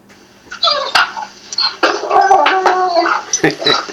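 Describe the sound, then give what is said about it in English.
A puppy whines and yips in a run of high, wavering cries, fairly loud, with brief sharp clicks and knocks mixed in throughout. “See, even a puppy agrees.”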